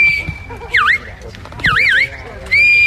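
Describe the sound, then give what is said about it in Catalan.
Shrill shepherd's whistles directing sheepdogs herding flocks at a sheepdog trial in Prades, Baix Camp, Catalonia: a long steady high note broken by two quick swooping, warbling calls, then another steady blast, over a low rumbling background murmur. “A partir dels xiulets i crits dels pastors, els gossos van anar conduint els ramats per superar les proves plantejades pel jurat.”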